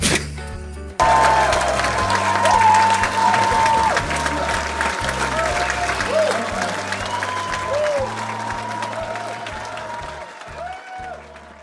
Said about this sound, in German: Applaus bitte.